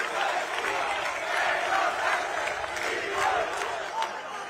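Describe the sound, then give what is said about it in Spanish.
A large crowd at Santiago Abascal's speech in Motril, Spain, shouts and chants together in a sustained, loud roar of many voices, with an angry tone of indignation and weariness and no single speaker standing out. “No seré yo, como otros, el que afee el grito de indignación y de hartazgo del pueblo español.”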